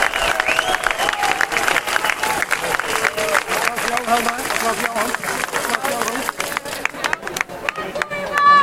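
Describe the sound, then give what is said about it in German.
An audience at a street climate protest applauds steadily, a dense rush of overlapping claps with scattered cheers and voices, sustained loud for several seconds and swelling again at the end. “Applaus voor jezelf.”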